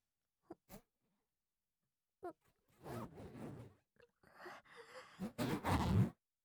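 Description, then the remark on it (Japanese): A zipper being pulled down with someone's mouth, starting with a few small clicks, then several raspy, ratcheting strokes that grow louder toward the end. No one speaks. “チャック、口で下ろさせていただきます。”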